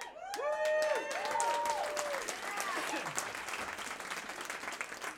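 An audience at a music gig at the Gravity Lounge in Charlottesville claps steadily for several seconds, a dense patter of hand claps mixed with a few rising and falling whoops and whistles early on, then settling into plain applause.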